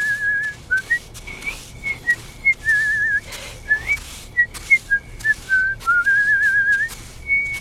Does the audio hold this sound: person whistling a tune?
yes